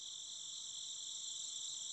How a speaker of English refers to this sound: For a moment, they all sat there together, the stars overhead twinkling, the sound of chirping insects in the night air.